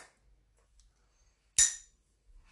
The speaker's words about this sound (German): Wir haben gerade früh angestoßen, ich habe nicht nur mit einem Kugelschreiber gegen das Glas gehauen. Prost.